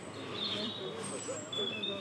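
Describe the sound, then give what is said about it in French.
Faint, high-pitched tip-tip-tip chirps from a small bird, thin and repeated over a low murmur of background noise. “Ben où il est passé, le petit oiseau? On l'entend faire tip-tip-tip, mais on voit pas.”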